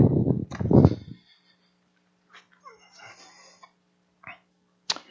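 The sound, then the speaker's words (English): A rooster crows once, following a loud, brief rustling burst at the start, with a low steady hum and a few short sharp clicks around it. “Get some crows.”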